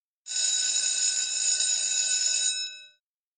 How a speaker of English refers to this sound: Wake up, you lazy bones. The bell has gone.